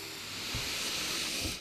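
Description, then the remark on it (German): Breathing in and out: a steady, airy hiss of breath that swells slightly and holds for over a second, with a couple of soft low thumps and no talking. “Jetzt atmen wir alle mal ein und aus.”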